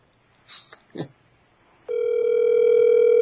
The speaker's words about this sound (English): It's ringing.